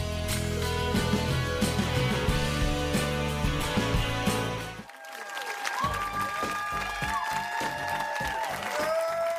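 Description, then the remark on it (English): Loud, sustained studio audience applause and cheering for Bill at the Real Time show, mixed with upbeat band music, with a brief dip midway before the clapping and whoops carry on over the music. “Wow, what a crowd.”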